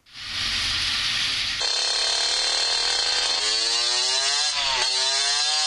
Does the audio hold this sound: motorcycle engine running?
yes